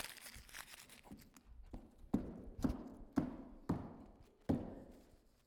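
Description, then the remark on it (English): Crinkling and crumpling of a $100 paper banknote, followed by five heavy stomps on it on a hard floor, each a sharp thud landing about half a second apart with brief rustling between. “And I crumpled it up and I stomped it on the floor as hard as I could.”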